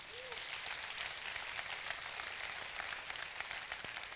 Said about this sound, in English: Give this man a round of applause.